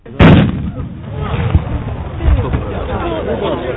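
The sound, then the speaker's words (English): A single loud cannon shot booms at the start, followed by a lingering rumble and a steady wash of crowd noise. “I guess 30 kilos of armor gets some getting used to, as does the sound of a cannon shot right behind you.”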